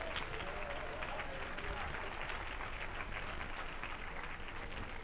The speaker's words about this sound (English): Clap your hands to Jesus right now.